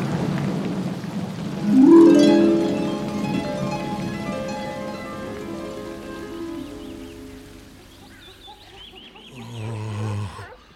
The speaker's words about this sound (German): Schon wieder das Himmelsfeuer! Ein Blitz! Das Gewitter kommt näher. Da, wieder ein Blitz.